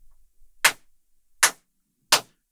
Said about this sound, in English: They lead you back through the entrance hall of the arena, where you find Ophidian and his team, Grey Knight, better known as Silver Song. And Ophidian begins to clap.